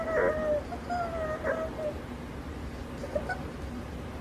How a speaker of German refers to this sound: Tiere schnarchen genau wie Menschen. Und bei den kleinen Tieren mag das ja wirklich herzig sein, etwa wie schnarchelnde Babys.